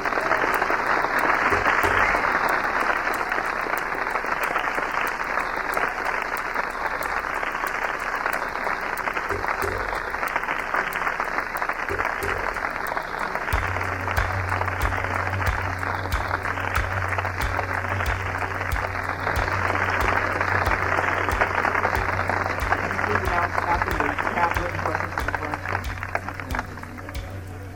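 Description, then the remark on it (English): Loud, sustained applause from a large audience as the Reverend Dr. Martin Luther King, Jr. is introduced, a dense steady wash of clapping that holds for nearly half a minute, with a low droning hum creeping in partway through. “Thank you very kindly for your heartwarming applause.”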